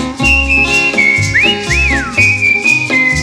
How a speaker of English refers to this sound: Whistle now.